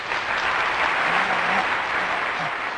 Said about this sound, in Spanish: Hoy pusiste el aplauso, muchas gracias.